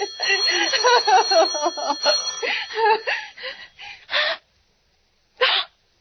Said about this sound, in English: Oh, let it ring. Let it go on ringing. It's a trick of some kind. I won't answer it. I won't, even if it goes on ringing all night.